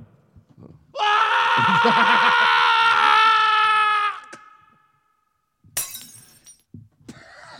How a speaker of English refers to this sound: It sounds like he landed on the one light bulb that we had down in the courtyard. We apologize for that disruption to our radio broadcast.